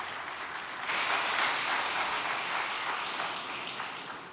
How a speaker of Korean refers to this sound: 그럼 따뜻한 박수로 맞이해 주시면 감사드리겠습니다.